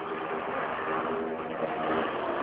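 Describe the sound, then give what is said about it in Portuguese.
A motorcycle goes by in front of the building, its engine a steady, rough drone that swells slightly toward the end, with no voices over it. “Passou uma moto aqui na frente agora.”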